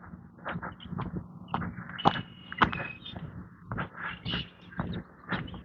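A starling mimicking a red-winged blackbird call: a run of raspy chirps, whistles and sharp clicks in uneven bursts, over a low steady background hum.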